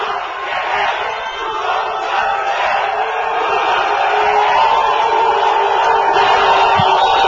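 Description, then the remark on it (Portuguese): A large crowd shouts pro-Lula chants together, a loud and steady roar of many voices that carries through the whole stretch with no single speaker standing out. The chanters are audience members linked to the PT and the Central Única dos Trabalhadores, shouting as Sérgio Moro's mother is called to receive flowers at a Câmara homage. “No momento em que a mãe de Sérgio Moro foi chamada para receber flores, começaram os gritos pró-Lula.”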